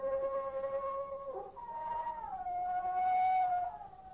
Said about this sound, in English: What's that? Sound like a wolf. Only there ain't no wolves out here.